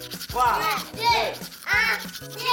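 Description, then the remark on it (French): A toothbrush brushing teeth in rhythmic strokes, about three long scrubbing passes with a swishing, bristly texture, fairly loud, each stroke rising and falling as it scrubs back and forth. “Donc attrape ta brosse à dents, ton dentifrice, et tu frottes jusqu'à ce que l'histoire va terminer.”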